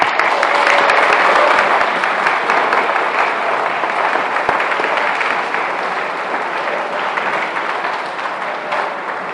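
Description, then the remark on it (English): A crowd applauds steadily for about nine seconds for first communicants, a dense wash of many hands clapping at once, loud throughout and tapering only slightly toward the end, with no voices over it. “Lastly, I just want to have a warm round of applause for our first communicants.”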